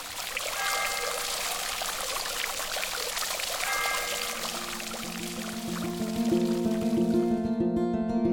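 Fountain water runs continuously with a steady, full splashing rush. In the last few seconds a tonal, rhythmic musical sound rises over the water. No one speaks.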